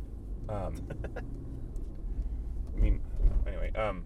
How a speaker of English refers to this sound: Just put your truck anywhere. Got to back around this corner just right. It's just, I got to be in this spot exactly right.